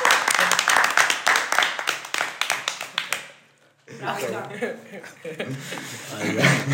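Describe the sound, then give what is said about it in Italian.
A brief round of applause, several hands clapping quickly and loudly for about three seconds, then a short pause before voices talk and chuckle. “Quindi vorrei fare un applauso al podcast della Trento Revolution.”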